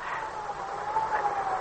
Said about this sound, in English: I can hear it too. It's a real siren.